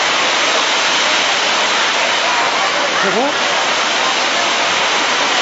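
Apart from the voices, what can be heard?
heavy rain pouring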